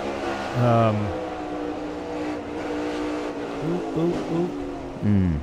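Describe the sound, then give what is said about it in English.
A loud race car engine roars steadily, heard from the in-car camera of the number 14 car, its pitch climbing and dropping with each gear shift, with sharp revving bursts near the start and end. “So we saw this is the first time I've seen the 14 in the car camera.”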